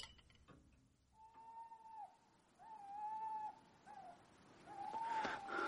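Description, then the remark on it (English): An owl hoots four times in a quiet night setting, long drawn-out calls with short pauses between, fairly soft, with no voices. “There's owls and bats and large furry creatures with claws.”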